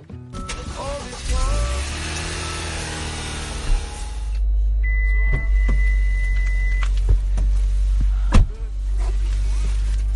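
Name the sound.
car being driven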